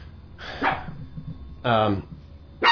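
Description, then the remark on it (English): A dog barks at the mailman three times in sharp, separate bursts about a second apart, loud, with no one talking in between. “What is it about dogs and mailmen?”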